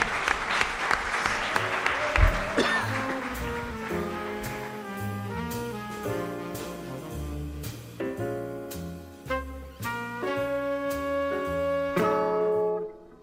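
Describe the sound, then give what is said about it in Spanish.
A brief burst of audience clapping, dense and steady for about two seconds, gives way to a tuneful music passage with clear, evenly struck notes that carries on to the end. “Pues un aplauso, sí señor.”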